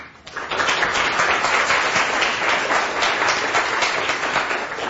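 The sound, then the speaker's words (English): A crowd applauds steadily for speaker Howard Lyman, a dense wash of many hands clapping that swells in quickly and holds at full strength for several seconds, loud. “You should never applaud for somebody until you hear what they have to say.”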